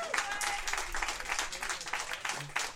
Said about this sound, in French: Quoique, en même temps, non, on va l'applaudir d'abord. Mesdames et messieurs, Alain Deneau, s'il vous plaît!